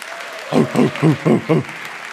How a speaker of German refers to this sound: Und einen Riesenapplaus an unseren Hund.